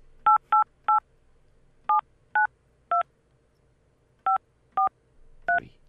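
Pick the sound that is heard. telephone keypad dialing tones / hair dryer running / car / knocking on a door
telephone keypad dialing tones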